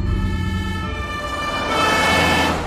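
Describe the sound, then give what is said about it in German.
An ambulance siren wails loudly and steadily with a harmonic tone over the low rumble of a moving vehicle, swelling slightly louder toward the end, as the ambulance races through the streets with blue lights toward a hospital. “Kurz darauf rast auch David durch die Straßen. Mit Blaulicht fährt er Richtung Klinik.”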